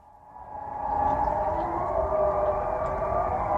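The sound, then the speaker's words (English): A civil defense warning siren in Switzerland, during the yearly test on the first Wednesday in February when 7,000 sirens sound simultaneously, rises in pitch over the first second, then holds a steady, loud, droning wail with a faint rumble beneath it and no voices present. “7,000 warning sirens are tested simultaneously.”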